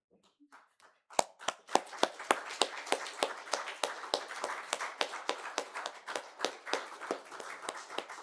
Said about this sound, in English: So if you're a mother this morning, I'd like you to stand up so we can applaud you for the work that you've done.